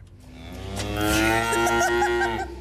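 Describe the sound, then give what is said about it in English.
A single cow moos in one long, drawn-out low call that swells louder toward the middle and holds steady before fading, heard clearly with no talking. “I'm talking about cows tonight.”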